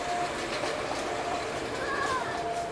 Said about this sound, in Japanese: まもなく2番線に普通籠原行きが参ります。危ないですから黄色い線までお下がりください。この列車は4つドア10両です。